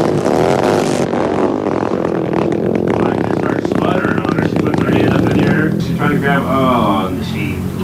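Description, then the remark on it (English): A '79 GT Hunter and Shift motorcycle engine sputters to life and revs loudly, its pitch rising and falling in uneven bursts, with rattling mechanical clatter underneath for several seconds. “going to try it once again, the 79 GT Hunter and Shift motorcycle.”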